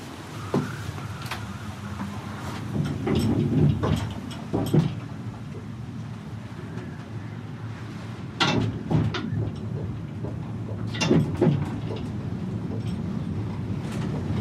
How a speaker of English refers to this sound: The cable car rocks back and forth, swaying 50 meters over the ocean